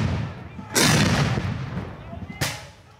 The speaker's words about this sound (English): Men dressed in Union and Confederate uniforms line up on either side of a long field. They carry rifles and flags and push cannons into position. Then the fighting begins.